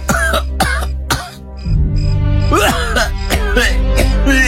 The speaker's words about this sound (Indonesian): Aduh, Pak. Kasihan sekali. Batuk-batuk dari tadi kok belum juga berhenti.